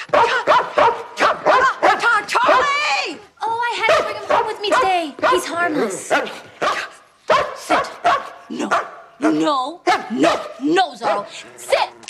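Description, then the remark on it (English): A big Doberman standing behind a door in a house barks loudly, firing off a rapid, continuous volley of deep barks with only brief pauses and a few higher yelps mixed in. “There is a Doberman standing behind the door.”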